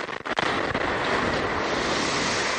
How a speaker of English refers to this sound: An explosion and fire Sunday afternoon at an ECUA compressed natural gas fueling station on Pine Forest Road destroys at least 5 sanitation trucks. This was the sound captured by video surveillance at nearby Gary Sapp Automotive.